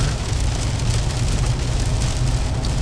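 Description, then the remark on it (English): Heavy rain pours down steadily, a dense, constant hiss with a low rumbling undertone, loud throughout with no voices. “And everybody's car is white and gray, and you can't see anything, and it's coming down pretty good right now.”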